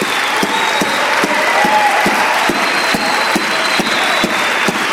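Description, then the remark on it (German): An audience at a church service applauds the Lord steadily, dense clapping filling the whole stretch with a sharp accented clap roughly every half second standing out, loud and sustained without letting up. “Und jetzt, ihr Lieben, wollen wir dem Herrn einen Applaus geben.”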